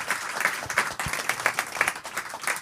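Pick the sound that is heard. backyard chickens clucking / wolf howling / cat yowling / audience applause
audience applause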